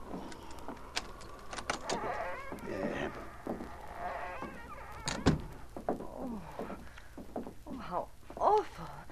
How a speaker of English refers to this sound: Oh, it needs repairing. I'll unlock the door.